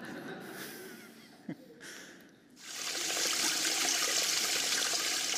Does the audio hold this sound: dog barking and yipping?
no